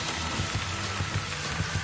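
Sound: audience applause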